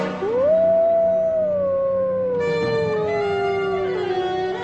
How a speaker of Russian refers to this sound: Волки воют обычно в темное время суток. Хорошо этот вой слышен в тихие, безветренные ночи.